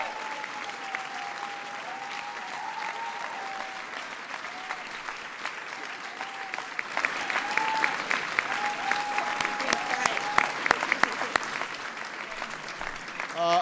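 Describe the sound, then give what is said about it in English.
A room full of people at the White House applauds steadily, a dense wash of clapping that swells a little louder midway, with faint voices and whistle-like tones running beneath it. “Please give Steve a big round of applause.”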